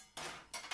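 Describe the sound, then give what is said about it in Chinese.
A cooking pot clatters as kitchen utensils are gathered, three quick metallic clanks in a short burst, loud and bright with no one talking. “锅子、”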